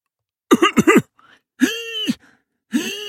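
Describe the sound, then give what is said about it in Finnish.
A voice imitates a donkey with weak lungs wheezing and coughing: two quick raspy bursts, then a longer strained wheeze, a short pause and another wheezy sound beginning, fairly loud with no talking. “Aasilla oli heikot keuhkot ja siksi se hipisi ja välillä yski.”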